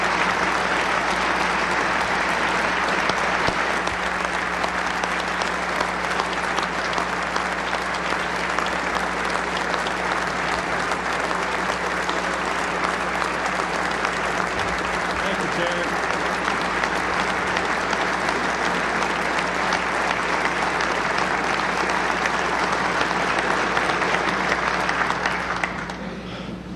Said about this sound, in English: And that's, you deserve applause.